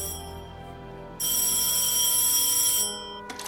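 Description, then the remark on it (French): A telephone rings on the line after a man dials an English number, a steady electronic tone swelling into one bright, sustained ring burst before fading back, ending with a small click. No one speaks. “L'homme décroche son téléphone et compose un numéro anglais. À l'autre bout de la ligne, son interlocuteur lui répond.”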